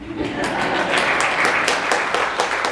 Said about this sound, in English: Please clap.